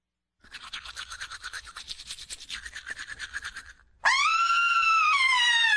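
Brisk, rhythmic scrubbing of a toothbrush runs for a few seconds, stops briefly, then gives way to a loud, sustained high-pitched scream from a woman on seeing pink in her sink after brushing; the scream holds to the end.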